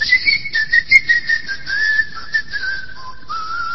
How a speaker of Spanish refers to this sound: Usted llega a la isla de Tracoda y oye los silbidos.